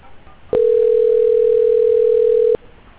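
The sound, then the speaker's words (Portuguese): A telephone ringback tone sounds once as a steady, mid-pitched hum lasting about two seconds, starting and stopping with faint clicks, over a low, quiet line hiss. No one talks. “Eu te ligando.”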